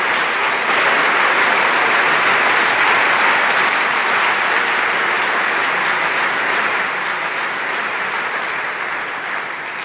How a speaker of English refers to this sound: Professor Jeffrey Sachs spoke on June 1st, 2016, at the Technical University Berlin. Here's the applause from an overflow audience in the main auditorium.